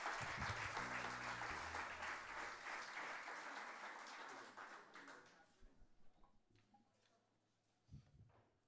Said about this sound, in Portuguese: Mais um grande aplauso para eles. Excelente guitarrada.